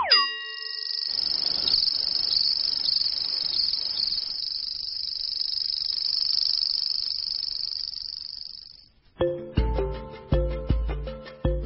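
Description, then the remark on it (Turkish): A grasshopper stridulating by striking its hind legs against its wings: a steady, high-pitched trill buzzes continuously for about nine seconds, then stops and gives way to a series of bright, ringing chime-like hits. “Onun adı çekirge.”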